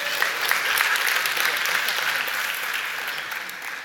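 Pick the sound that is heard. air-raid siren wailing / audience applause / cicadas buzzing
audience applause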